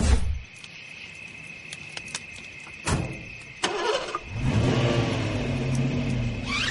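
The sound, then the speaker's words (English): A few sharp clunks, then a truck engine turns over and revs loudly, its pitch climbing as it pulls away while someone steals the truck, with crickets chirping steadily in the background throughout. “did you hear that? Somebody's stealing my truck.”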